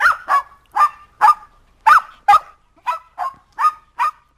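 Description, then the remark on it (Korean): A small dog, Toto, barks over and over at a cat among a crowd of people, about ten sharp, high yaps in a quick, steady rhythm, fairly loud with no voices around it. “토토는 사람들 틈에서 고양이를 보며 짖고 있었다.”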